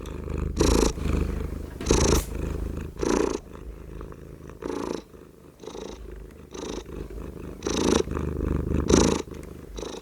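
A fat male domestic cat purrs steadily, a low rumbling drone that swells in regular breathy pulses roughly every second, with no other sounds.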